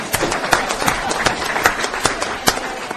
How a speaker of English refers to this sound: Big round of applause.